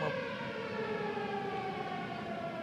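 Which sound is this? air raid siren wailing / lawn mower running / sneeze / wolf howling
air raid siren wailing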